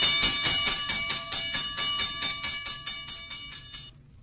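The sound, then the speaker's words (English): A modern fire alarm sounds in rapid, evenly spaced pulses of bright, ringing metallic tone, about three per second, loud and steady for roughly four seconds before cutting off. No one speaks. “But the signal warning of a fire did not always sound like that.”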